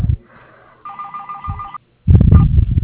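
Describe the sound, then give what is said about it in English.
A telephone's other line rings during an ongoing phone call, a steady electronic trill lasting about a second, followed by a brief silence and then a loud burst of muffled rustling and handling noise. “Other line's ringing.”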